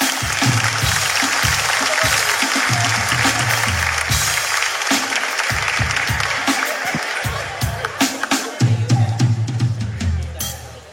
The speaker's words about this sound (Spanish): Apoyemos a la señora, un fuerte aplauso para ella.